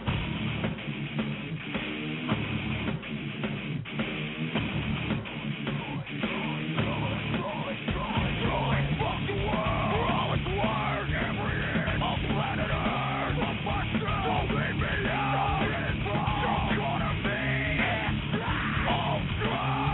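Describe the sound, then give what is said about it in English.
A loud live rock performance with raw screamed vocals over driving distorted guitar and drums, dense and energetic throughout, with a slightly muffled, lo-fi recorded quality. “I'm going crazy a little bit on guitar, and I wrote all the tunes and blah, blah, blah, and that's me screaming and kicking ass on stage.”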